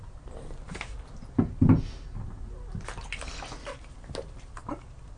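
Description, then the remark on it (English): Water sloshes and splashes in a bathtub as a person sits in it with a kitten leaning over the side, with a couple of louder swishes early on and softer lapping and movement continuing throughout. No one speaks. “I am in my bathtub with the kitten leaning over the side”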